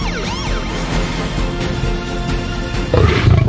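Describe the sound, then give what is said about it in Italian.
A lion roars loudly, a deep rumbling growl with sweeping tones at first, swelling into a heavier, rougher burst near the end, with no voices. “Mi riprenderò il mio leone in un modo o nell'altro.”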